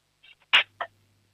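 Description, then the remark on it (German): A child deliberately drops five or six forks so they clatter into a cutlery drawer: a couple of light metallic clinks, then two sharp, bright crashes in quick succession, followed by a faint low hum. “dann nimmst du so 5, 6 Gabeln und lässt sie so richtig schön reinscheppern in die Lade, damit dann haben wir ein bisschen Lärm hier im Radio, das ist auch immer toll.”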